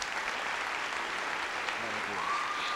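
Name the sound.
audience applauding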